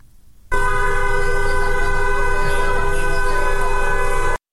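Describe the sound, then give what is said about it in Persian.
A loud, steady car horn from passing cars in Tajrish Square, Tehran, Iran, blares continuously for about four seconds, unbroken, then cuts off abruptly, with only faint background noise before it starts. The cars are honking in support of a street march. “در میدان تجریش تهران هم گروه‌هایی از دخترانی که حجاب از سر برداشتند با همراهی پسران دست به راهپیمایی در منطقه زدند و خودروهای عبوری نیز با بوق‌های ممتد از اقدام آنها حمایت می‌کنند.”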